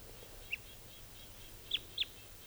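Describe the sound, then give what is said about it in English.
A type 2 red crossbill gives three short, clear alternate call notes: one alone, then a close pair a moment later, over a steady low background hum, with no talking. “There's the alternate type 2 call.”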